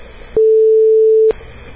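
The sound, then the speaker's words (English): A loud, steady telephone-line tone from a dial-up modem dialing a phone number, one unbroken beep lasting about a second, rising abruptly out of low background hiss and cutting off just as sharply. “I have what a modem sounds like.”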